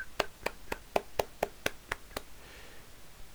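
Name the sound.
hands clapping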